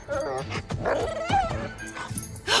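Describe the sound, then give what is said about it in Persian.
A female dog barks and whimpers, a quick run of yips and high, wavering whines that rise and fall, ending on a sharp bark, with no one talking. “فکر کنم این سگ راهمون برای رسیدن به عمارت وودلند باشه.”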